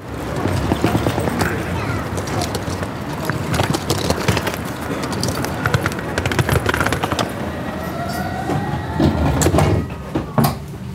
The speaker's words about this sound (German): Draußen ist der Zug sehr, sehr, sehr laut.